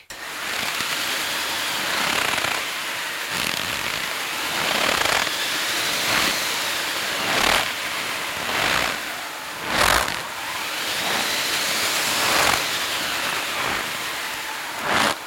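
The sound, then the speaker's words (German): A wind machine makes a steady, hissing rush of artificial wind that swells and fades in slow waves, with crisp crunching bursts of footsteps in snow breaking through at irregular intervals to simulate a snowstorm. No one speaks. “Ja, und dann machen wir die Windmaschine, dann haben wir Schritte im Schnee mit dem Wind.”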